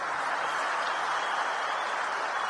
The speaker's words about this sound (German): Also es gab halt Jubel aufgebrandet, die Leute sind aufgestanden, haben geklatscht. Und es war dann auch so eine bewegende Szene, weil man gemerkt hat, wie viele Leute halt darauf gewartet haben, auch im Saal, und halt wirklich sich gefreut haben.